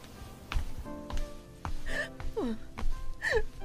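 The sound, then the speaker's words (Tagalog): A mother cries at home in her room in broken, shaky sobs, with sharp catching breaths and a few falling, whimpering wails between them, all without any words. “Ma, ano nangyari sa inyo? Umiiyak ka ba?”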